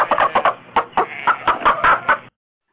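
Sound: rubber chicken squawking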